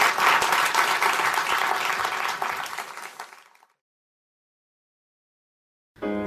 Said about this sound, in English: So please give him a huge round of applause. Thank you.